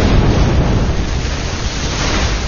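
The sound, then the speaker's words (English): A loud, sustained rumbling roar of a massive explosion aboard a burning pirate ship, blowing corpses and cannon out both sides, heavy low-end boom washing steadily through the whole moment with no voices. “A larger explosion shook the Delta Blue, blowing corpses and cannon out both sides.”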